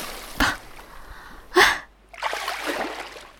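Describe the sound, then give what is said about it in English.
Two quick, sharp splashes of warm pool water made by hand, the second louder, followed by a longer patter of dripping and sloshing water, with no talking. “And I can also splash you with my hands now.”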